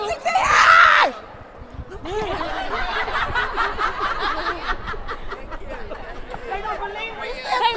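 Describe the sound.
At the end of a red carpet, a loud, high scream bursts out for about a second, then a dense crowd of voices keeps chattering and calling out, with occasional shrieks and laughter rising from the din.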